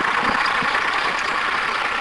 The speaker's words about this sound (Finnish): Meillä on muuten täällä niin kuin kunnon maatilalla kuuluu. Täällä on traktori. Eli eipä anneta sen häiritä, että on ihan aitoa tunnelmaa.